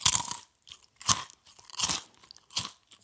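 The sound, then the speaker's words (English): Crunching of cookies being munched, four loud, crisp bites spaced about a second apart with quiet chewing gaps between them, no voices. “He munches cookies and a chicken leg.”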